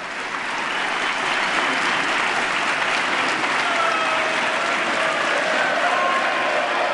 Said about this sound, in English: I think those are some Democrats cheering that they didn't act on the president's plan for partial privatization.